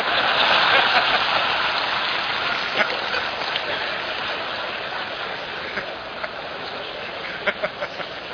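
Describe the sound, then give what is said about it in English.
An audience applauds steadily, a dense wash of crackling claps holding an even loudness for several seconds, with a few sharper individual claps popping out near the end; no one speaks. “I apologize for that outburst of unseemly but righteous applause.”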